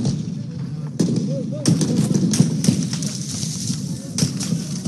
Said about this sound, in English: Gunfire was heard outside the Sudanese military headquarters in the capital of Khartoum on Tuesday.